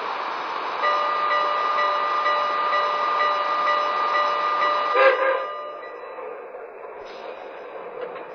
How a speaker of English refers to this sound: Clifton Forge on track 2, train number 46, the Sportsman.